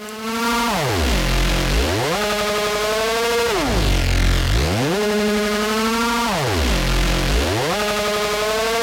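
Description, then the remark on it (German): Heavily distorted music: a loud, buzzing, harmonically dense tone that repeatedly swoops down in pitch and climbs back up, roughly every three seconds, with a gritty saturated texture throughout. “Und es gibt Verzerrungen, die klingen einfach fett.”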